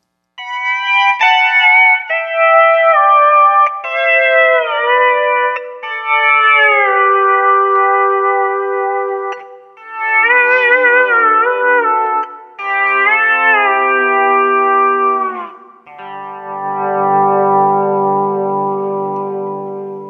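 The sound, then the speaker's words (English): Guitar notes and chords ring out through a slow, gentle chorus effect, depth left at noon and speed rolled back to about 9 o'clock, adding a soft shimmering wobble to the sustained tones, with no one talking. “That's a moderately fast chorusing speed there, so let's leave the depth at noon and roll the speed back to about 9 o'clock.”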